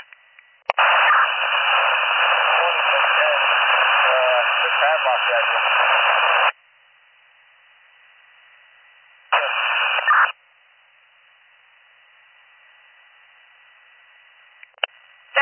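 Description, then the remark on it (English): Bursts of harsh, band-limited radio transmission static: a loud six-second hiss with an unreadable, garbled voice buried in it, then a short one-second burst, separated by a quiet low hum and a faint click. “I didn't catch your last transmission before because it was static”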